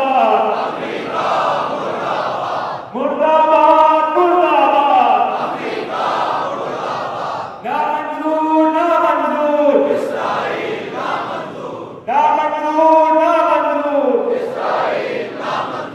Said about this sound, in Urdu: یہ نعرے لگے آپ نے سنا پچھلے سال بھی میں نے بیان کیا تھا اس پر. بعض لوگ ان چیزوں پر اعتراض کرتے ہیں, میں بیان کر دیوں کہ جو امریکہ مردہ باد اور اسرائیل مردہ باد ہے, یہ کوئی نیا نعرہ نہیں ہے